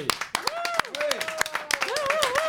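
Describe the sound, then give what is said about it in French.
An audience claps steadily with dense, crackling applause as a guest is introduced, while excited voices whoop and call out over it throughout, rising and falling in pitch. “C'est bon, merci, il a rien fait encore, applaudissez pas.”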